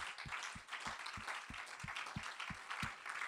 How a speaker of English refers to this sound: Put your Bible down and let's give the Lord a hand clap of praise as we approach the Word of God tonight.